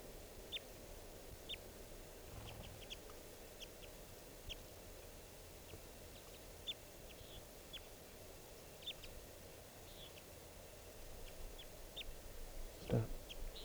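A male-female pair of birds trade short, high-pitched chirps back and forth in an irregular series, matching each other's calls. The calls are faint over a steady low rumble of background noise, with no talking.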